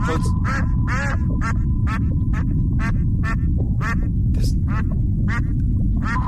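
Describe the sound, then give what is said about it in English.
A cartoon duck character's voice from an online video quacks in rapid, squawky bursts, about a dozen in quick succession, fairly loud over a constant low rumble and a faint steady tone. “They're saying it could be ducks. Right. No one. Hang on one second. No ducks. Your picture of despair. That's Donald Duck on YouTube.”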